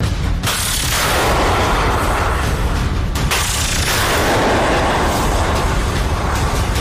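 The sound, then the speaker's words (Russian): A loud, rumbling explosion with a sustained roaring blast, two sharper bursts cutting through near the start and midway, with no voices: a Russian missile fired toward Kropyvnytskyi being shot down by an Igla MANPADS over Mykolaiv region, Ukraine, on 22 March. “Пишут, что боеприпас уничтожен выстрелом из ПЗРК «Игла».”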